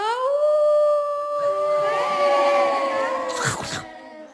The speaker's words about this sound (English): There were wolves eating sheep.